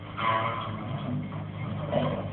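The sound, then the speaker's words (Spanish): A door creaks open in one drawn-out, groaning squeal that wavers in pitch for about two seconds, steady and fairly loud, with no voices. “La hermosa Karen lo sigue con la mirada hasta escuchar el chirrido de la puerta.”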